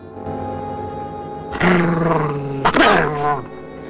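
dog growling and snapping

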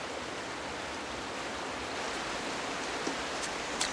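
waterfall rushing water

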